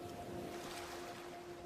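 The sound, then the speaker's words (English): A soft, steady wash of ocean waves lapping at the shore fills the background with no clear breaks, joined by a faint, constant low hum, heard alone without any talking. “Stay connected to your breath, the sound of the waves,”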